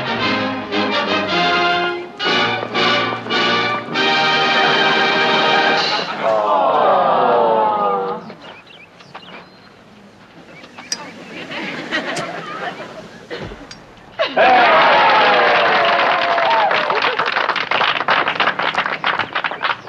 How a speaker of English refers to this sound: The legendary Paavo Nurmi is anchorman in the historic relay from Greece to Finland, receiving an ovation as he lights the stadium torch.